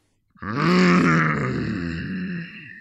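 A deep, drawn-out troll-like grunt voiced by a person, one loud, low, rumbling groan lasting a couple of seconds, steady throughout and fading slightly at the end, with no other sounds.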